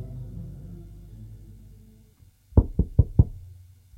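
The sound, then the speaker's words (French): Four sharp knocks on a door in a quick, even rhythm, then a fifth a moment later, loud, following a low hum that fades into silence. “L'on frappe à la porte.”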